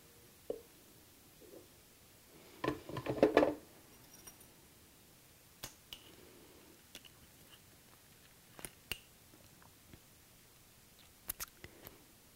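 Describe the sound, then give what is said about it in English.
A thick blueberry, cinnamon and stevia smoothie glugs into a glass in one short, squishy burst lasting about a second, followed by sparse light taps and clicks against glass in otherwise quiet surroundings, with no talking. “I'm just going to pour it in here.”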